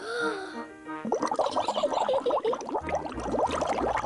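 Peppa Pig blows bubbles into her orange juice through a straw, a busy gurgling burble that runs steadily for about three seconds after a short tonal sound at the start.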